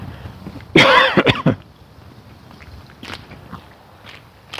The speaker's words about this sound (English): Sorry about the cough, I got some sort of lung crap going on here.